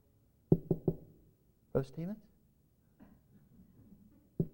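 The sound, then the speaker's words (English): Three quick, soft knocks on a house door at 2 in the morning, a brief vocal sound, a quiet pause, then another pair of knocks starting at the very end. “Or would you knock quietly at the door?”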